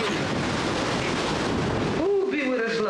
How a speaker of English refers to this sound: It's the sky. It looks pretty now. It sure soon will change. Girl, I hear some thunder.